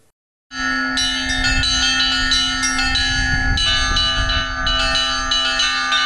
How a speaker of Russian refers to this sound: В Воронеже состоялся концерт колокольного звона. Музыкальное действие прошло в рамках пасхальной выставки-ярмарки. Звонницу расположили на аллее, ведущей от Покровского собора к Дворцу творчества детей и молодежи.